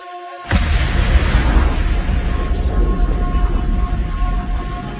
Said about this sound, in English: Explosion tore through a car being driven by two Earth First activists on an Oakland street today. Both are alive and have been hospitalized.